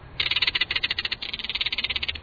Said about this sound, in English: These weird calls come from a crested caracara, one of North America's most charismatic birds of prey. Caracaras are tropical birds, but they're common in Texas, and an isolated population lives in Florida.